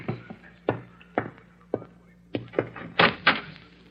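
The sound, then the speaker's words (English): A sheriff's solid knocks on a wooden door, a few spaced raps that grow louder and quicker toward the end, with a faint steady hum underneath and no voices. “Someone's at the door.”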